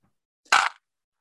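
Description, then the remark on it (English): Dice strike a hard tabletop in one brief, bright clatter lasting about a quarter second, then silence. No voices are heard. “I'm going to go ahead and roll some dice.”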